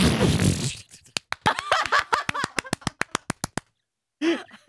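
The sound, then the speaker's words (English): A man's voice imitates a queef on the air: a breathy, noisy burst, then a rapid string of sharp, sputtering pops over a strained vocal tone, ending in a brief voiced sound after a pause. “when he used to do it on the air, when he would imitate it, he'd go, have.”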